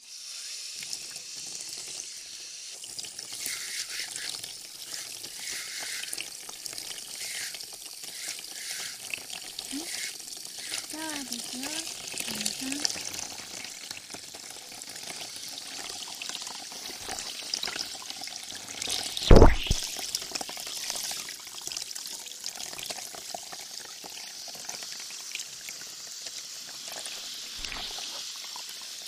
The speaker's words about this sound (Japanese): かけますよ。で、シャワーですね。